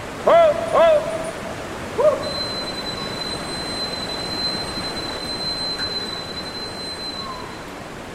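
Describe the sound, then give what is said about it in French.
A caver arriving in a large cave void shouts "oh" three times to test the echo and judge the void's size, two quick calls and then a third after a pause, each one ringing out and fading as it echoes through the cave. A faint steady high tone follows. “Ce que fait en premier le spéléo quand il arrive dans un grand vide, c'est de crier pour l'écho.”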